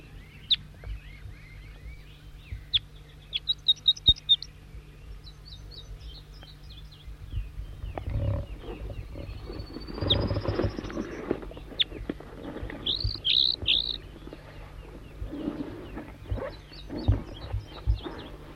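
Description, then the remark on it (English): A wild bird sings short, high chirping song phrases, responding with the same song phrases repeated several times with pauses between, over a steady low hum and some rumbling background noise in the second half. “Four, three, and back, responding with the same song phrases. Wild bird.”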